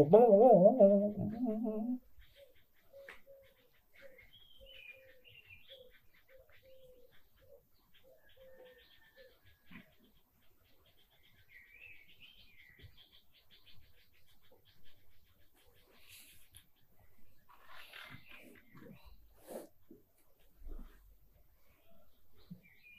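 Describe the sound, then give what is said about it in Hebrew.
A dove or turtle dove coos softly, a slow run of low, hollow notes repeating for several seconds after a brief louder sound at the start, with faint bird chirps later. “כמו שברמה המושגית נגיד, כן, זה היונה, או זה התור.”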